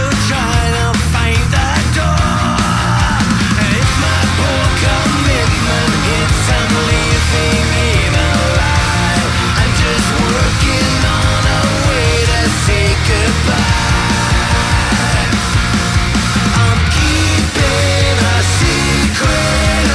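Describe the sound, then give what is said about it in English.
A loud, dense rock track plays continuously with driving drums and drum fills, heavy guitars and steady bass, the full band filling the mix from start to finish. “if the … play this tune live, the whole entire audience is going to be yelling bullshit”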